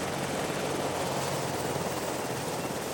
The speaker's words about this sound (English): She brought the helicopter back to the clearing. The Dauphine's landing gear slid out, and Arulan set her down.